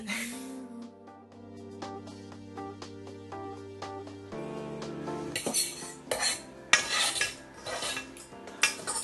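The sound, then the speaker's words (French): A metal utensil scrapes and clinks against the bottom of a saucepan, trying to get up three small pieces of pepper stuck at the bottom, irregular strokes growing busier and louder toward the end, with no talking. “Je suis foutue parce qu'avec ces pattes là, les 3 petits morceaux de poivron, ils restent au fond de la casserole. Oui, c'est un bruit assez désagréable, je reconnais.”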